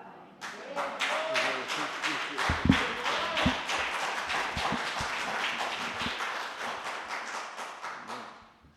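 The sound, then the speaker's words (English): An audience bursts into applause after a musical performance, many hands clapping in a dense, steady patter that stays strong for several seconds before tapering off, with a few low thumps and faint voices mixed in. “The applause is number one for the Lord, because what they were playing is totally true, and secondly, for the gift they have in being able to play it for us this morning.”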